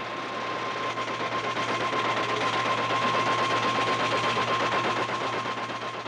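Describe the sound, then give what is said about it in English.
A high-speed computer line printer, able to put out up to 1,000 lines of type a minute, clatters continuously, a dense rapid chatter over a steady motor hum and whine, loud, running without pause. “The end results of such electrical mathematics are printed on a high-speed printer that can put out up to 1,000 lines of type a minute.”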